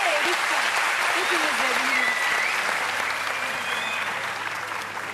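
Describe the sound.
Sustained audience applause, a dense wash of clapping that stays loud for several seconds before easing slightly at the end, with a few faint voices and whistles mixed in.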